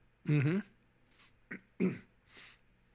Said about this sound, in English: Trying not to cough at you.